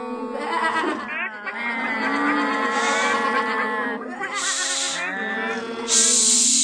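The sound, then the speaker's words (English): Loud, drawn-out cow-like lowing with a wavering, bleating quality carries on almost continuously, apparently a human voice imitating a cow lowing by the manger in a Nativity story, with no clear talking. “Stop mooing so loudly. I'm not mooing. I'm lowing.”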